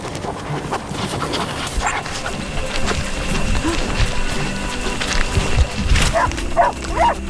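A dog lets out three or four short, sharp barks in quick succession near the end, after a stretch of rustling outdoor ambience with footsteps and faint background voices.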